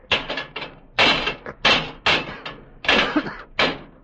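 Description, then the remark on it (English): Levers pry and bang against locked brass doors in the base of a monument in an attempt to break through: about seven loud metallic clanks and scrapes in an uneven rhythm, with no one talking. “Those are brass doors in the base, and they're locked.”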